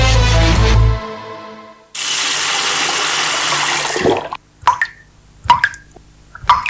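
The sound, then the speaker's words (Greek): A low hum gives way to a steady rush of water pouring from a tap for about two seconds, then it cuts off, leaving a few scattered drips and plops, in a Greek government water-saving message urging people to turn off the tap. “Μην κάνεις πως δεν τρέχει τίποτα. Η πολιτεία ενεργεί για να δώσει μόνιμη λύση σε ένα διαχρονικό πρόβλημα. Γίνε και σήμερα στις λύσεις. Κλείσε τη βρύση.”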